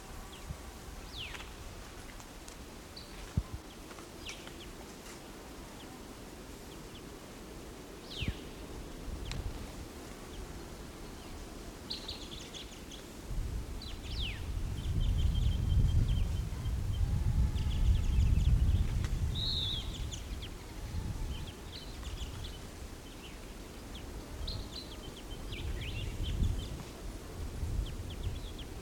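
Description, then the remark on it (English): Soft, scattered high chirps from a bird come and go over a steady low buzzing hum, with a few faint rustles between the quiet calls. “Okay, I just recorded that bird, so he's still calling a little bit.”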